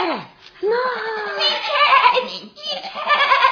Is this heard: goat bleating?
yes